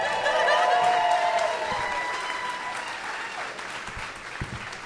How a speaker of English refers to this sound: They're usually getting more applause during this part, though.